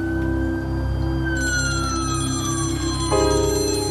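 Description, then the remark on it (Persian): A telephone rings loudly and steadily, its bright electronic tones layered over a low hum, with no voices present. “فرهاد گوشی رو بردار.”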